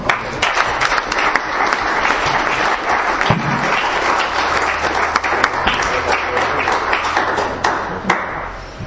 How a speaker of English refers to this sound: Let's get one more round of applause for all our speakers.